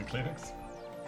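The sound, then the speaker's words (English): A sneeze, not a nose sneeze, bursts out suddenly at the very end, short, loud and voiced. Before it come a second or so of quieter, murmuring vocal sounds. “That wasn't a nose sneeze.”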